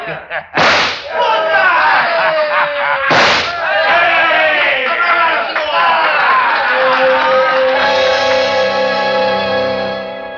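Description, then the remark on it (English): Two sharp gunshots, fired at the coal buttons of a giant snowman out on a lawn, crack a couple of seconds apart, each with a quick echoing tail, followed by a busy wash of excited voices and cheering that carries on loudly to the end. “I'll blast every lousy button off his lousy shirt. Hey, great shot”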